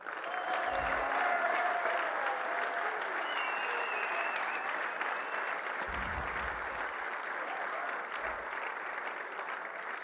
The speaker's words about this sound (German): Schön, dass ihr da seid, Mädels. Gell? Jetzt mal nur ein Applaus von den Männern für die Frauen.